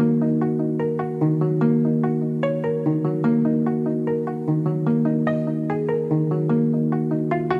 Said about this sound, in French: Un album avec toujours autant d'émotion et de sensibilité où son piano et sa harpe résonnent ensemble pour nous faire vibrer.